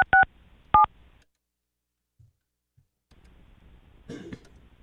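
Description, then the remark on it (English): Two quick pairs of clear, loud telephone dialing tones as an outgoing call is placed, then near silence with faint rustling and a brief throat-clearing sound near the end. “Tried to call. Calling again.”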